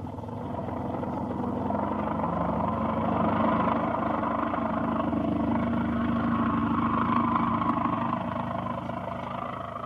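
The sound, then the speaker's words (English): A loud, steady airplane engine drones without pause during takeoff, a thick, rumbling roar that holds constant for the full stretch, with no voices over it. “What a plane. He's turning. What a flyer. Look at him bank.”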